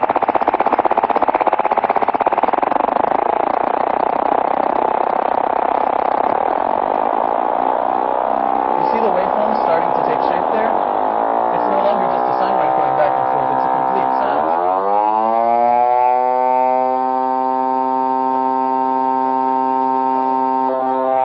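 A loud, continuous FM synth tone warbles as its pitch oscillation speeds up, the wobble blurring faster and faster until it fuses into a steady, bright, buzzy tone for the final seconds.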